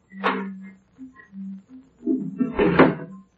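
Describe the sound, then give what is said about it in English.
Doors being opened: a wooden knock and scrape, a few soft thumps, then a louder rattling clatter with a low thud as the doors swing open, with no voices. “Open those doors.”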